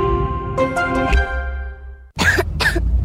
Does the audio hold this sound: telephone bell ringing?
no